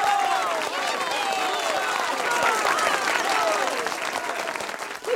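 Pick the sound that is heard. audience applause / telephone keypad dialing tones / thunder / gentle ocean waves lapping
audience applause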